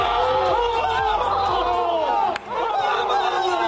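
Atlético footballers shout and cheer together on the pitch, celebrating a result against Real Madrid, in a loud, continuous burst of overlapping celebratory yells, with a brief dip in the noise partway through before the whooping picks back up.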